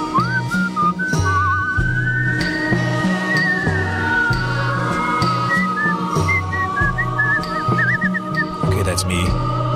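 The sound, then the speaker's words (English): A woman whistler's clear whistle carries a melody with vibrato and sliding notes over a steady, rhythmic music backing with bass and percussion in a recorded tune. The whistling sits prominently in front throughout. “She's a whistler. You heard the whistling earlier, didn't you, in this tune while I was talking?”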